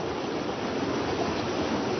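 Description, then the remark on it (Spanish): A steady, unbroken rush of the Caquetá River in Colombia, a dense wash of flowing water that holds an even level throughout, with no voices or other sounds standing out. “El sonido del río Caquetá no ha cambiado mucho desde que Janet se fue de aquí hace casi 10 años.”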